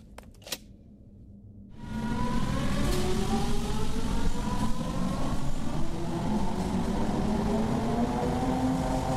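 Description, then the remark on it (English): After a brief quiet stretch with a couple of clicks, Riot Car Number 1, a small electric hand car from subway construction, armed with machine guns and souped up to do nearly 80, roars to life, its whining engine pitch climbing steadily as it speeds along with no talking. “Just one of the little electric hand cars used in subway construction, but armed with machine guns and souped up by our engineers until it'll do nearly 80”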